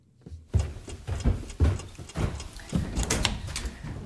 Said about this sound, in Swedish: Så när man kommer in och öppnar dörren här till badrummet så ser man ju direkt den här rosa nyansen som sprider sig.